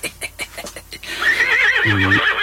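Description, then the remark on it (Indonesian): A horse neighs loudly, a long wavering whinny that follows a few soft, rhythmic clip-clop hoofbeats. “Kok seperti aku mendengar suara kuda?”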